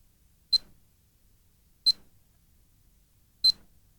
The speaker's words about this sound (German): Wenn Sie eine Nachricht hinterlassen wollen, sprechen Sie bitte nach dem Piepton auf den Anrufbeantworter.